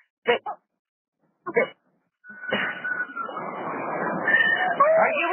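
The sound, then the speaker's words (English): A cat sitting on a person gives a few short meows in quick succession, then a steady, noisy rumble takes over with faint, muffled cries and voices mixed in. “The cat's on me.”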